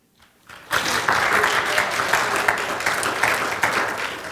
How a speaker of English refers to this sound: That one you ought to clap your hands on.